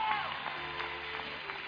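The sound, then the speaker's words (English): An audience clapping their hands in praise to the Lord in a dense, steady wash of applause with a few scattered shouts mixed in, holding an even loudness for under two seconds. “Clap your hands, all you citizens.”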